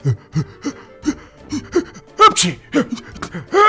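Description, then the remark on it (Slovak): A voice theatrically imitates the wolf Viktor in a children's story sneezing after inhaling black pepper: a string of loud sneezes, with sharp gasping inhales between bursts and one especially forceful, hissing sneeze near the middle. “Pobudil celý les, kýchal ako divý.”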